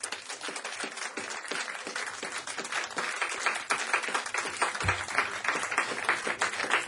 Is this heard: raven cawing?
no